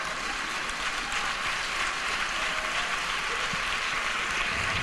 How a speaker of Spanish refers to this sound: No le aplaudáis estas cosas, por favor.